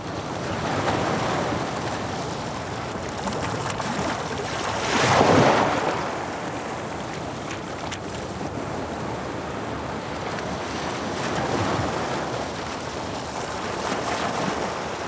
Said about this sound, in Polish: Nad Bałtykiem ponownie rozszalał się sztorm, zacierając ślady katastrofy.